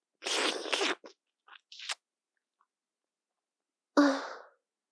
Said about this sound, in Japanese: ザーメンの出し残り、まだちょっと垂れてますね。すべてすする決まりですから、失礼します。